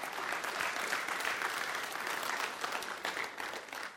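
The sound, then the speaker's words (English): A church audience claps steadily for several seconds after the announcement that Core Community Church will merge with Coram Deo, dense overlapping hand claps forming a sustained, fairly loud wash of applause with no voices breaking through. “Yes, you can clap.”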